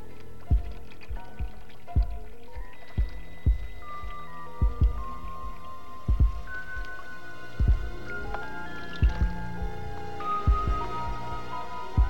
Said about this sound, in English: she hears only this water dripping from a nearby faucet. And it's almost in rhythm with the beating of the blood in her head. She hears all this because it's so still.